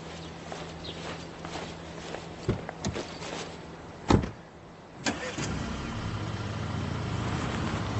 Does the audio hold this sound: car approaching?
yes